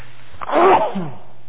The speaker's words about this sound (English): I got to sneeze.